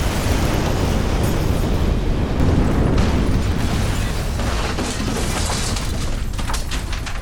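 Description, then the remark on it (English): A toy tower crashes to the ground in a loud, sustained rumbling roar that keeps going for several seconds, with scattered clattering bursts toward the end and no voices. “Crash! The tower fell to the ground.”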